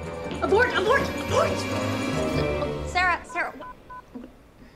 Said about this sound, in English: Is that your phone? You're not supposed to have your phone in the kitchen.